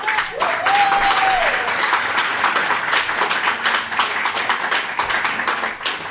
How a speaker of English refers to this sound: Let me finish the script for y'all start clapping